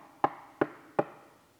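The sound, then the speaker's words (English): Three firm knocks on a door, evenly spaced, each a sharp hollow thud with a short ring-out, then quiet. “It says, Jesus will stand at the door of every person knocking.”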